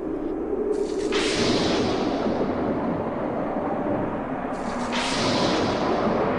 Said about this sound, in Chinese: 然而，当诺亚的方舟就要造好时，大地突然风云变色，雷声大作。